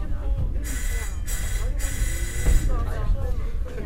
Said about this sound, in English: Up the road, a battered cable tram carries coal miners to a mountaintop village, and yet another glaring cost of China's economic growth.